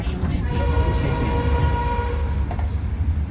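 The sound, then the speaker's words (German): A passenger train rumbles steadily with a heavy low-frequency drone and faint metallic squeals from wheels or brakes, continuous, as it slows and stops in Luang Prabang. “Der Zug stoppt in Luang Prabang.”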